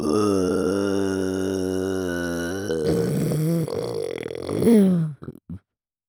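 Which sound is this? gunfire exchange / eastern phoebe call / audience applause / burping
burping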